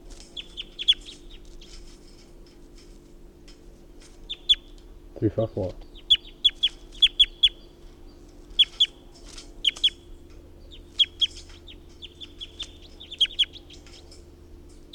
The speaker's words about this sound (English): This is bird 354 again.